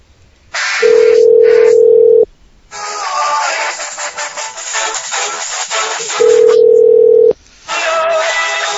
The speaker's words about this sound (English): Okay, you heard the ringtone, right? Tell me you did. Yeah, I heard it.